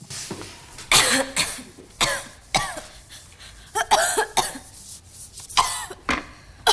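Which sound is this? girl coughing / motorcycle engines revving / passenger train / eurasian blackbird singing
girl coughing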